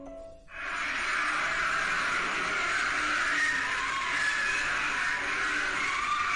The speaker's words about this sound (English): Leading many to think that the digging penetrated the gates of hell, allowing the screams of the dead to be heard.